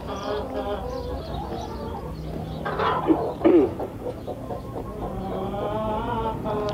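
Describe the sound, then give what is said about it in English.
A flock of Three Counties hens cluck softly and continuously, several birds overlapping in a low, contented murmur, with a couple of louder, sharper clucks standing out near the middle. “Yeah, that's just a contented sound. They're all chatting to each other.”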